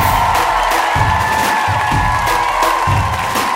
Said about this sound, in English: You guys have been so much fun. Clap it up for your wonderful host. Goodbye.